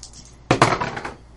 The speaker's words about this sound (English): Oh, you know what? You're gonna roll dice. Oh. Ha! What kind of dice? 2d6, different colors. Alright, roll 2.